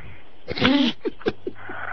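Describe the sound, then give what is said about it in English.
Heavy, muffled breathing over a phone line from a man asleep with the phone at his ear: one long, rough exhale followed by several short, soft breaths, with faint line hiss in between. “I hear him breathing.”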